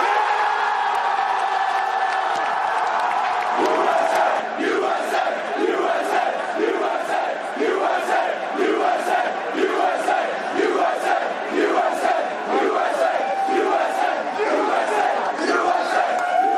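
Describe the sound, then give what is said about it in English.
A large crowd of soldiers chanting and cheering in a loud, rhythmic unison, with repeated bursts of shouting roughly every half second to second, sustained throughout. “Let's hear that cheering again right now.”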